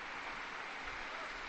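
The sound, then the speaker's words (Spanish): Steady applause from a crowd, a dense, even patter of many hands clapping at once with no pauses, filling the whole short stretch without any voices; the applause is for all grandparents after the liturgy for the first World Day for Grandparents and the Elderly. “Un aplauso para todos los abuelos, a todos ellos.”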